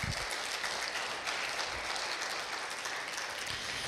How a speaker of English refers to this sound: Would you guys give these guys a round of applause?